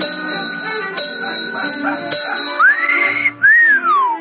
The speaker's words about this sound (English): Let him whistle.